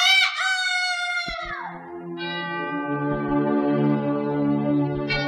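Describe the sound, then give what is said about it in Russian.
A single rooster crow rings out loud, its drawn-out call sliding downward at the end, followed by sustained ringing musical tones that continue to the finish. “Ку-ку-ра!”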